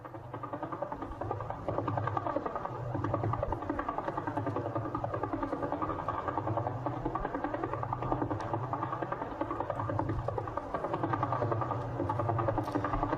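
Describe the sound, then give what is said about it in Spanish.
Radio pulses from a famous pulsar about 815 light-years from Earth, converted to sound: a rapid, steady pulsing drone repeating at a fast even rate, like helicopter rotor thumps, with a rich buzzing tone; continuous and fairly loud throughout, no voices. “Es uno de los pulsares más famosos, más conocidos y que más se han utilizado para mediciones de tiempo extremadamente precisas, ¿no?”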